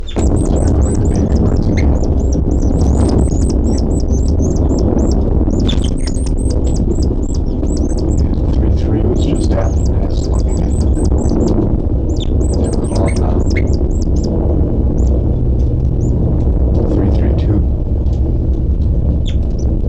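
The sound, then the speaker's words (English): Calls from birds identified as 3-3 and, occasionally, 3-2-7 repeat throughout: bursts of short, high-pitched chirps and squawks, some in quick runs and some spaced apart, over a steady loud low rumble. No one speaks. “And nothing now except for the calls of 3-3 and occasionally 3-2-7.”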